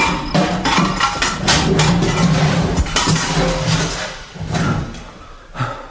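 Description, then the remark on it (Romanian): A metal chain is hammered and smashed open: a rapid, loud series of clanking metallic blows and rattles, tapering off before a final clink, with no voices. “Dar de la o parte, voi sfârâma lanțul acestei grupe!”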